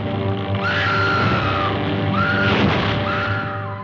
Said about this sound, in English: And the original Scream Queen, Faye Ray, from King Kong way back in 1933.